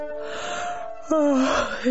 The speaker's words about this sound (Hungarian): egy óvatlan pillanatban el nem ásítja magát.